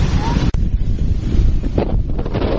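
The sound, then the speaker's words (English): Blustery wind buffets the microphone in a steady roar, with the low wash of sea waves underneath and a brief dropout partway through, heard while sitting by the sea at Westgate. “Definitely a friend of mine called being by the sea, sitting by the sea, she called it ocean therapy.”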